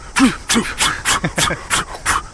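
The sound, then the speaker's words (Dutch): A person imitates the heavy, rapid breathing of sprinters running: about eight forceful, breathy huffs in a steady quick rhythm, some with a slight voiced grunt. “En het geluid van hun ademhaling. Zo. Hè? Beetje zo.”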